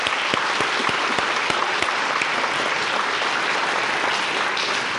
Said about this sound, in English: Well, we don't usually applaud the reading, but I think today that deserves a round of applause.